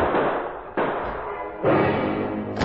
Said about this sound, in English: Shots rang out before he reached the door.